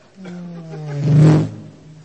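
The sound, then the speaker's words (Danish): A voice imitates a car engine being started in second gear: a steady humming drone swells into a loud, rough roar for about half a second, then settles back to a low hum. “Startede han bilen i anden gear.”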